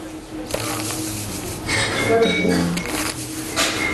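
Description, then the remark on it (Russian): A metal spoon clinks and scrapes against a bowl several times as three tablespoons of semolina are added to a blended stewed-cabbage mixture for cutlets, with short bright taps and a brief ringing tone over steady kitchen background noise. “3 столовых ложки манной крупы.”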